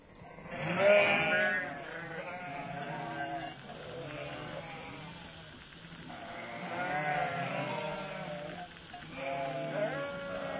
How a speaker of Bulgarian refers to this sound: Хубави овце. Кооперативни.